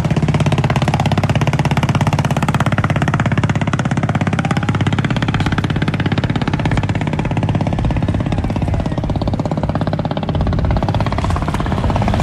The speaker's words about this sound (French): Ça, c'est des ferries qui descendent le fleuve ou qui montent le fleuve.